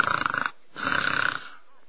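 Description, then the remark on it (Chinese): A storyteller's voice imitates the loud snoring of the character Sheng Ying, snoring loud enough to be heard in the courtyard: two rough, rattling, forceful snores in quick succession, with a short pause between them and no other sounds. “摘耳朵一听，好，圣婴的呼噜在院里都能听见。”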